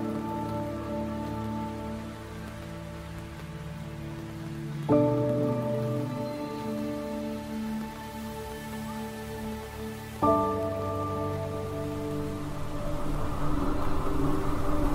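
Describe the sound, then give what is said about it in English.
Steady, heavy rain patters on surfaces at a homestead in Pennsylvania in a continuous wash of drops, with sustained droning tones that shift twice, swelling slightly louder toward the end. No one speaks. “Well, today at our homestead, when it rains, it floods.”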